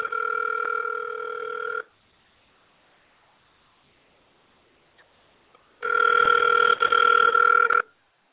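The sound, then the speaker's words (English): An outgoing call from a cell phone: a phone line's ringback tone sounds twice, each steady electronic purr lasting about two seconds, separated by a long silent pause, with a thin, band-limited telephone quality. “I was trying to call her on her other.”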